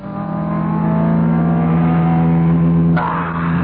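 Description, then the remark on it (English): A car engine labors and revs continuously, loud, with a steady droning hum and a strained rise in pitch; no voices accompany it. The car is in poor condition and needs an overhaul. “Well, you hear what's happened to my car?”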